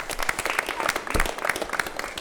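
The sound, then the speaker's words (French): A club audience applauds, many hands clapping densely and steadily, fairly loud and continuous throughout with no talking over it. “Je pense que tout le club mérite des applaudissements pour les actions mises en place.”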